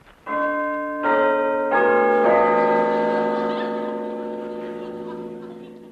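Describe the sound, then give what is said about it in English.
A pull-handle door bell clangs four times in quick succession, its bright metallic tones overlapping and then slowly ringing out into a fading hum, with no voices. “Pull the bell handle.”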